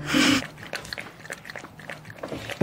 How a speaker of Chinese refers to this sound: 你怎么把狗还带到学校里去了啊？还放在课堂里头？